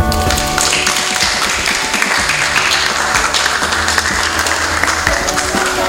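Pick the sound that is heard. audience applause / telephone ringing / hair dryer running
audience applause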